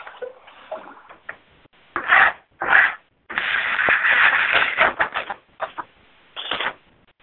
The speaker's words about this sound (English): And if you're kind of shuffling in the background or shuffling papers, just star 6, please.